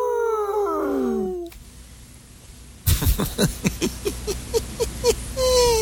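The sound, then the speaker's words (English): Buddy, a pit bull from Tribuca Canyon, California, howls in long, wavering, falling tones for over a second while playing Piñata Fiesta, an iPad game for cats, followed by a steady hiss and then a quick series of sharp rhythmic bursts. “We're going to play ourselves out with the iPad star of the week, Buddy the Pitbull from Tribuca Canyon, California, playing Piñata Fiesta, a game for cats.”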